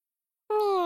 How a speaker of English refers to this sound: Meow. Meow. Page 10. A cat runs into the room.